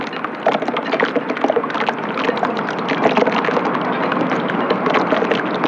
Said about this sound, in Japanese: そよ風でヨットに当たる波とポールに当たるロープが心地よいリズムを奏でています。